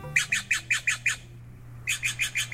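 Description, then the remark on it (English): A blue Steller's jay gives a rapid series of harsh, rasping shack calls, about eleven in two quick bursts separated by a brief pause, loud with a low steady hum beneath. “It's a jay, and it's blue. But this is a Steller's jay, not a true blue jay with a capital B.”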